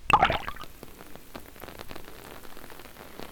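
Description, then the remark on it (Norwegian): Steady rain falls, pattering on a hard surface as a dense scatter of drops, opening with a brief louder splash before settling into an even, continuous patter. “Se på det fallende regnet.”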